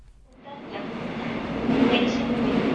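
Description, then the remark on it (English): A subway train on a morning commute to the office in South Korea rumbles along, its broad, steady roar swelling in after a brief quiet start and holding at a moderately loud, continuous level. “For millions of South Koreans, the morning subway ride to the office begins a very long day at work.”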